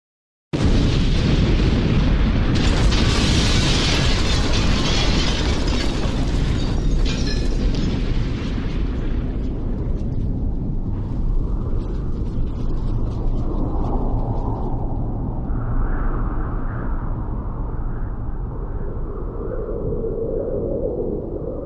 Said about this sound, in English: At 9:04 and 35 seconds, a time later verified by the seismic records from the day, the explosion happened.